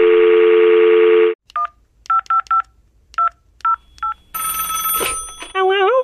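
A steady dial tone gives way to about nine quick touch-tone beeps as a woman's phone number, taken from her email, is dialed, followed by a noisy burst of line tones and a warbling ring, loud.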